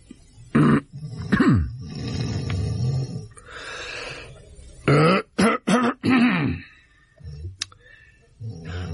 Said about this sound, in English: I'll cough.